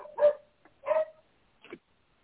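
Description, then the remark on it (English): A dog barks three times in quick, uneven succession, the first two loud and full, the last shorter and softer, with no one talking over it. “Jesus, Mary, and Joseph, I'm going to kill a dog.”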